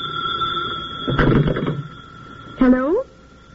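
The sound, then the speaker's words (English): A telephone rings with a steady, high electronic tone for about a second, followed by a brief clatter and a short burst of a voice speaking. “I'll answer that.”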